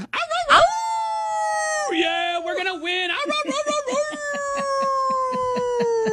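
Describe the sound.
A person imitates a wolf howl, a wolf yell for the Crawford County Wolf Pack, with long, sustained vocal tones that slide in pitch, dipping and then slowly falling, mixed with a brief bit of spoken talk.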